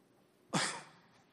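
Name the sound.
cough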